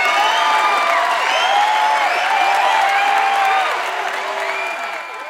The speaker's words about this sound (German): Ich möchte einmal von der Regie möchte ich einmal so einen tobenden Applaus haben.